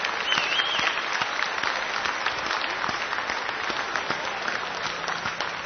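An audience applauds steadily for several seconds, a dense, even wash of many hands clapping at constant loudness with no voices standing out.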